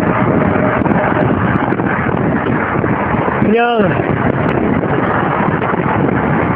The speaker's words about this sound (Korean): 그냥 이 바람소리 자체만으로도 너무 좋네요. 아, 상쾌합니다.